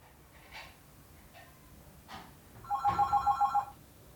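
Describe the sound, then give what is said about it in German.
A telephone bell rings once in a single rapid, trilling burst lasting about a second, preceded by a few soft breathy rustles in otherwise quiet surroundings. “Nanu, wer weiß denn schon die Nummer? Ich habe das Telefon doch erst gestern angemeldet.”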